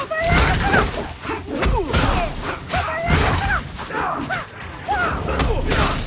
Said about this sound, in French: Dernière question, on va vous passer un extrait d'un combat. Êtes-vous capable de reconnaître au moins un des combattants?